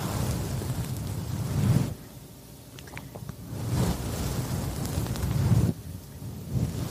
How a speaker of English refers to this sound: I think he is at the beach. This is what he's making it sound like. He's making it sound like the ocean, isn't he? But I don't think it's the ocean. I think it's him rubbing that paw on top of the microphone.